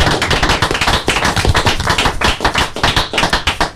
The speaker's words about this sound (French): Est-ce qu'on peut les applaudir dans le studio là? Merci.